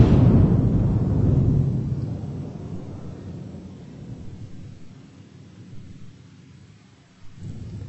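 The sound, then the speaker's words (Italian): A deep rumble of thunder rolls in loud and low, then slowly fades into a long grumble before a faint renewed rumble at the end. No voices. “Nessuno ha alzato la mano durante il tuono.”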